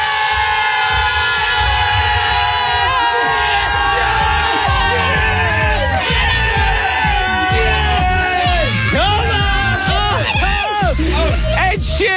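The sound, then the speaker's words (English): A loud crowd cheers and whoops continuously for Friday on the Capital Breakfast radio show's 1-year anniversary show, with rising and falling shrieks building toward the end, a dense wall of excited voices with no clear speech. “It's our 1 year anniversary show, and if there has ever been a time to cheer, it's now because it's Friday!”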